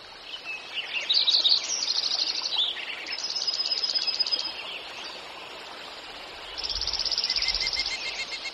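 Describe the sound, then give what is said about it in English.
A spring dawn chorus at early morning light: several male birds sing at once, with bright overlapping trills, warbles and chirps pouring out continuously over a soft, steady outdoor hiss. “One of the magical gifts of birding is to hear the dawn song in spring.”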